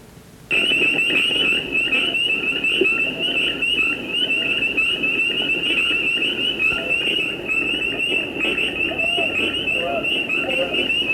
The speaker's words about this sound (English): Okay, these are spring peepers, pretty much I think everyone has heard. If you haven't, or didn't know what you're listening to, here you go.